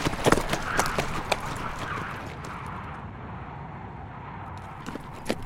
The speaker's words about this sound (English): They hitched their weary horses into a trot that carried them south toward Red Butte.